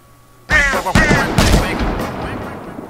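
Video game gunshots fired at crows with the space bar: three sharp, loud blasts about half a second apart, the first carrying a bright ringing tone, each trailing into a noisy rumble that slowly fades.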